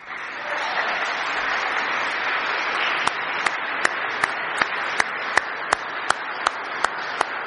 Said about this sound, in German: und ich glaube, da dürfen wir ruhig mal klatschen.